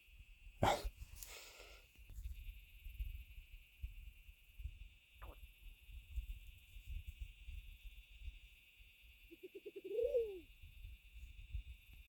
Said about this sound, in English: And this white-faced owl is really giving a special performance by popular demand. It's absolutely wonderful to listen to the African night.